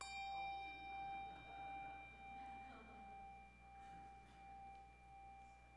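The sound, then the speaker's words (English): A hand bell is rung steadily with repeated swings, each stroke blending into a sustained, bright metallic tone that hangs in the air. Fairly quiet, with no talking. “Now, as I've sufficiently demonstrated, I think, I can ring a bell.”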